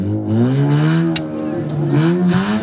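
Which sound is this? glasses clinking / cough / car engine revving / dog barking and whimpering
car engine revving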